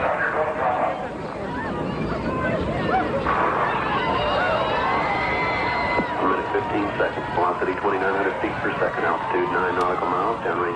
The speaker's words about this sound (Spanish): Escucha, porque este fue el instante de la explosión. Se escucha de fondo los gritos y los llantos de los familiares.